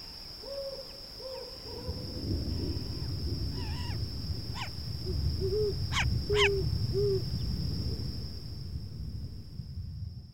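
An owl hoots repeatedly in a steady series of short, soft calls over a night-time ambience, with a few sharp higher chirps and a constant thin high whine; no one speaks.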